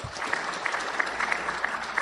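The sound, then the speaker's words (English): An audience claps steadily for about two seconds, voting by applause on which item is the fiction, a dense patter of many hands with brief louder bursts, moderately loud and without any voices. “If you think the item about the Dutch purchasing for beads is the fiction, then applaud.”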